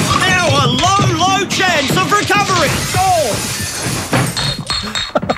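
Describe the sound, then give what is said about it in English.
A man yells and groans for a few seconds, then crashes through a glass door with a loud shattering of glass, shards tinkling and scattering as the noise trails off. “Watch out for that glass door.”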